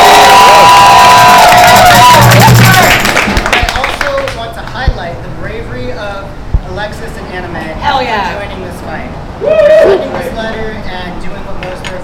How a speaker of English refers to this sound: I want to hear one big round of applause for the new Almeida Tenant Union. Yeah!